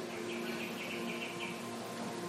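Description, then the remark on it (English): Soft, repeated high chirps drift over a steady low hum, like birds calling in a quiet outdoor setting; no one speaks. “peaceful sound of the birds.”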